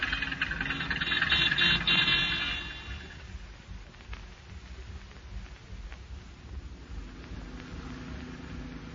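A car engine rumbles low and steady as the vehicle moves along slowly, with a louder hiss of road noise for the first couple of seconds before settling into a quieter drone.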